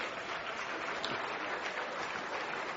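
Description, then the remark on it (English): An audience, urged by the speaker to clap, claps steadily for about three seconds, a dense, even wash of many hands with no pauses or voices standing out. “Come on, clap.”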